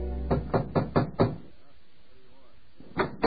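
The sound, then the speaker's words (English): Five firm knocks on a wooden room door at the Y in Woodhaven, in a quick, steady rhythm, fairly loud, followed by a short pause before another faint knock or thud near the end. “My heart was filled with conflicting emotion as I knocked on the door.”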